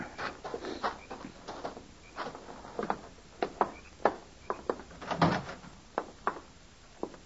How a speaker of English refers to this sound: Hey, wait. There's a horse in here. He must have got in and the door blew shut, poor thing.